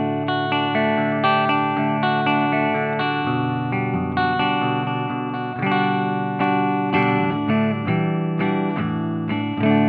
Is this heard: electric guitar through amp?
yes